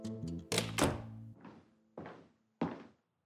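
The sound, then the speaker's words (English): A door is pushed shut, with a handful of heavy wooden thunks and clunks spread over a few seconds before everything goes quiet. “Close the door”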